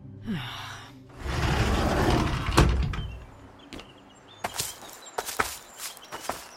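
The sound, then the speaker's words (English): A door swings open with a rushing, rumbling sweep and a sharp clunk, followed by a handful of crisp, uneven footsteps. No one speaks. “Open the door and see.”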